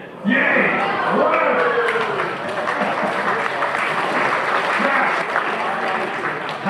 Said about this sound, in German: Das war großer Applaus im Hörsaal in Bern. Was war das für ein Moment, wo das so geklungen hat? Ja, das war das Ende der Mission.